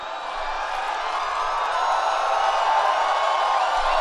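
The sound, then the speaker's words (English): A large crowd at a Donald Trump rally roars and cheers loudly and continuously as Trump praises Montana's Greg Gianforte for body-slamming a reporter, a dense wall of shouting and whooping that holds steady and swells slightly over the four seconds. “And the crowd went wild with cheers.”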